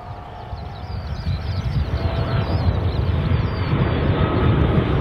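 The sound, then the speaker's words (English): An airplane's engines roar steadily at Christchurch International Airport, a dense low rumble with a hissing wash on top that swells slightly louder over a few seconds, with no one speaking. “You see a lot of interesting things when you walk around Christchurch Airport, showing the very strong US influence here, right at the bottom of the world.”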